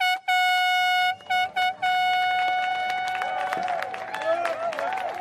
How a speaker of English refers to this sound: And with that sound of the horn and the cheers of loved ones, a fleet of boats carried away nearly 30 teams of competitors in what has been called the world's toughest row.